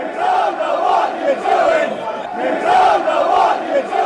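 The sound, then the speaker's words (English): A large crowd of Leeds football supporters in a stadium sings the chant "You don't know what you're doing" in unison, the loud massed voices rising and falling in a steady repeating melody. “There was a guy getting married on the pitch, and then some wag in the crowd just started singing, "You don't know what you're doing, you don't know what you're doing.”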